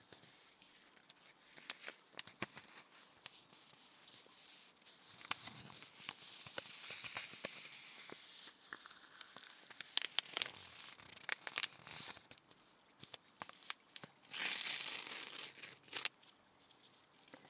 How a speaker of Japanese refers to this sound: 紅茶をポットで蒸らしている間は、違う種類の紅茶、今度はティーバッグタイプのお紅茶を。ほら、紙とこのティーバッグの素材の音、いい音ですよね。